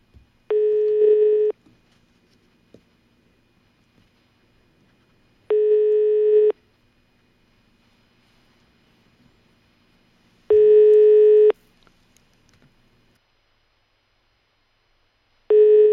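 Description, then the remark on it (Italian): A telephone busy tone sounds alone on the line after a call is hung up: four steady, clear beeps, each about a second long, separated by long evenly spaced silences. “Parenzo, attacca.”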